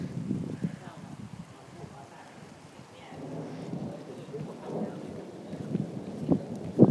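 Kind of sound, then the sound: nature, thunderstorm with rain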